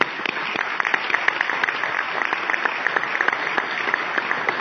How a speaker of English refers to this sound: So could we please clap for them?